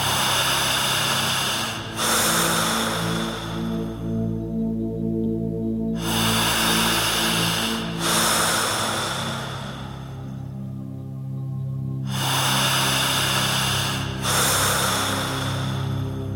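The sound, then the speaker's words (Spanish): Slow, deep breaths drawn and released in long, airy rushes as part of a hypnosis exercise, separated by several seconds of quiet, with a steady low droning tone humming underneath throughout. “En tercer lugar, usted tendrá que respirar todo el tiempo de esta manera.”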